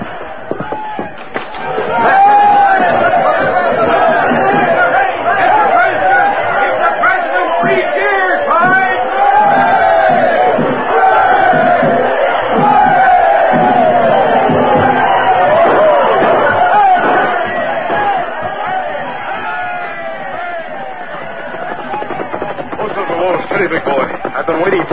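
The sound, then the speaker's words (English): Loud, continuous crowd chatter and cheering outdoors in Dodge City at night, with many overlapping voices forming a dense, steady din that runs nearly the whole time and eases slightly near the end. “Sure, but he ain't in this crowd.”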